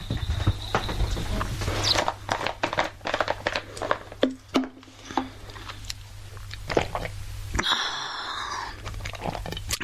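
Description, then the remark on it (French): A person drinking: a run of wet gulps and swallowing clicks, irregular and fairly loud, with faint sloshing and a low steady hum underneath, no talking. “Tu veux m'entendre boire?”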